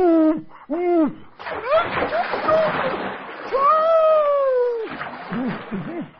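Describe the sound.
Water splashes and sloshes in a bath as an owl named Oeguburu is washed, mixed with loud, wavering hooting cries like an owl's, apparently voiced by a person, rising and falling in short bursts.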